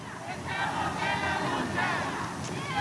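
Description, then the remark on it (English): A crowd of several hundred people gathered in a street in an industrial part of Tacoma, Washington, on a rainy Saturday, many voices overlapping in a steady, dense babble with occasional raised shouts, fairly loud and continuous throughout. “Despite the weather, several hundred people crowd into a street in an industrial part of town.”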